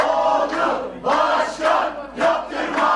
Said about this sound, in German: HDP-Anhänger jubeln im Sprechchor, dass es nach diesem Wahlergebnis keine neue Verfassung geben wird, die auf Präsident Erdogan zugeschnitten ist.